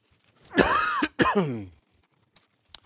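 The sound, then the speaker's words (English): A man coughs and clears his throat in two loud, rasping bursts, then silence follows with a couple of faint clicks. “And she gives me this cough, and I can't get rid of it.”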